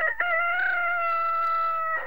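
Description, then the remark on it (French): A rooster crows once in a long, drawn-out call lasting about two seconds, loud, with no talking around it, where cows and chickens are kept at the Castro Romanum. “Et chrétien ou pas, il faut bien garder les vaches ou les poulets.”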